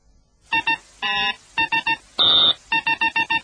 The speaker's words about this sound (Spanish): Bueno, creo que ahora han sido dos pi, pitido raro, tres pi, zumbido y cinco pitidos.